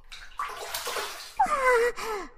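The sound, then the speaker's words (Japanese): Water splashes and sloshes in a few uneven bursts as hands scoop water over a face to wash it, followed by softer wet trickling and a faint breathy sound. “ご主人様、もしかして私の顔を洗ってくれたのですか。”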